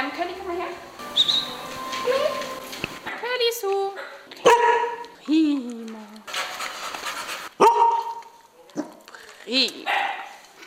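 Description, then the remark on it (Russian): At a dog daycare in the Wilmersdorf district of Berlin, several playful dogs eager to play with a visitor yip, whine and bark, with panting between calls, while sharp thumps and scraping bursts of handling noise come as one dog chews on the microphone. “Каждому псу непременно хочется первым поиграть с гостем. И вот уже один из них, улучшив момент, пробует на зуб мой микрофон.”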